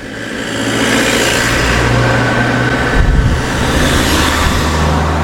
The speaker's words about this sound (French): Ah, une voiture s'arrête.